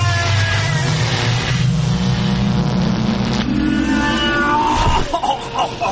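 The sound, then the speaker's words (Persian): A time machine's loud engine revs, its pitch climbing steadily for several seconds, then breaks off abruptly into a short burst of noise as the time machine departs. “ماشین زمان جام کجایی کجایی بزن بریم.”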